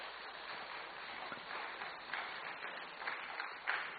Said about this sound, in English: Round of applause for our panelists, please.